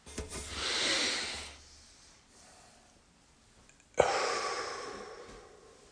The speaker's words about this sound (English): That's breathing. 4 seconds in, 4 seconds wait, 8 seconds out. Typically. Everybody's different.